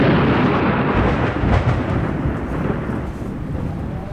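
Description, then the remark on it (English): Heavy rain pours down in a dense, steady roar while deep rumbling thunder rolls underneath, loud and continuous throughout with no voices. “The rain is unbelievable.”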